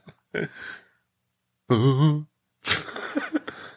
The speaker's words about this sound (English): Sounds like you're about to sneeze.